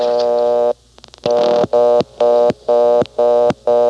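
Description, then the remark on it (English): A steady buzzing telephone tone breaks off for a few quick dial clicks as a 3 is dialed. The exchange blocks the call, sliding it to the 11th terminal as if all trunks were busy, and a loud, harsh tone pulses on and off in a fast, even rhythm like a busy signal. “It slides right over to the 11th terminal, as if all the trunks were busy.”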